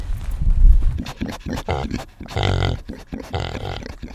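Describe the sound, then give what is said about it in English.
Farm pig grunts, a run of short, rough snorts followed by a couple of longer, louder squealing grunts, with low rustling and movement underneath. “Come on over here, I'll introduce you to our pigs.”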